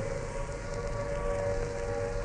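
An air raid siren wails steadily in Trafalgar Square, heard from the steps of St. Martin's in the Field, a sustained tone hanging over a dense, rumbling background of outdoor noise, with no voices in the foreground.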